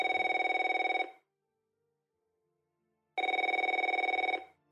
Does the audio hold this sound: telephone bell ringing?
yes